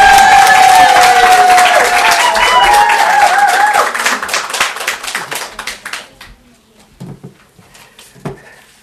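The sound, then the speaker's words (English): A crowd breaks into loud, dense applause with whoops and cheers for a speaker over the first few seconds, then the clapping thins out and fades to a few scattered claps. “This is his third time speaking, so let's give him, cheer him on, and just give him a big round of applause.”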